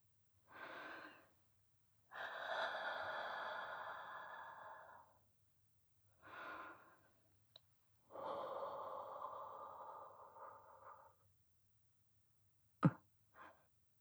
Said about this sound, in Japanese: 吐息か。わかった。行くぞ。吐息を吹きかけられて興奮を催すフェチもあるとはな。